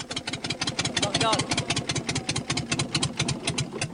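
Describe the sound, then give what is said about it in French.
The engine of a small boat carrying 60 people at sea on a pitch-dark night amid swell chugs and sputters in a rapid, uneven rhythm as it fails, loud, with a brief muffled voice rising over it partway through. “C'est à ce moment précis que le moteur va rendre son dernier souffle.”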